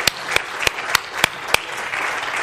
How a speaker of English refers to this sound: Give the Lord a hand clap tonight.